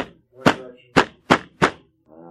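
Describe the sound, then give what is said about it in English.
Four heavy, booming war-drum beats strike in a slightly uneven rhythm, each one loud and sharp, echoing off the hills from behind, about a mile out. A low, humming tone lingers faintly between the hits and swells again at the end. “When you hear what sounds like, and everyone would concur, war drums.”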